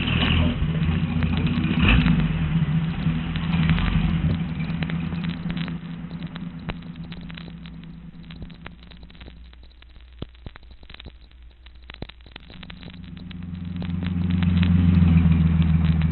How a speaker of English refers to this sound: Well, there's the car.